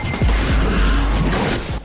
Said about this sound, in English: It bounces off the windshield, cracking the glass.